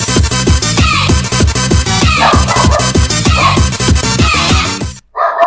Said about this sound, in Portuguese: E aí? O cachorro tá opinando aí.